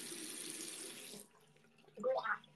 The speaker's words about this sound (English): I accidentally swallowed some of the stuff. Swallowed some of the water I was gargling with.